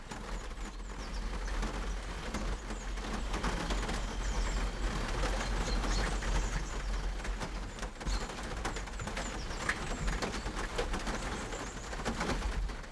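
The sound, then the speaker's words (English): Steady rain patters on the roof of a van parked next to a forest in a dense, crackling wash of drops, while birds chirp and coo intermittently above it. No one speaks. “And I'm just like sitting in my van next to the forest and it's raining and the birds are chirping.”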